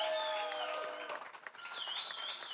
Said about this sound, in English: Y'all give Will Mosley a round of applause.